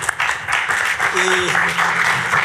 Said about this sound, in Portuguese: Palmas.